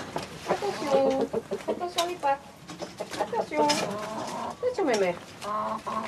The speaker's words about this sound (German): Er und seine Frau haben inzwischen 8 Hühner und einen Hahn. Wenn mal ein bisschen Fleisch oder Gemüse übrig bleibt und es ist zu wenig, um es selbst zu essen, geben wir es den Hühnern.